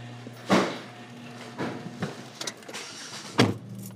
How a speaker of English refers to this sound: The street lights are still on when Wanda pulls her black SUV out of the garage.